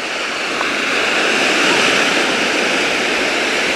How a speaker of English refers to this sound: Pretty good surf coming in at close to high tide at about 2 in the afternoon on Friday.